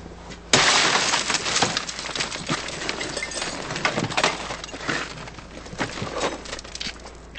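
A car window is smashed in a staged vehicle prowl (car break-in) shown by the Kirkland Police Department: a sudden loud crash, followed by several seconds of tinkling, crunching glass fragments scattering and clinking in uneven bursts.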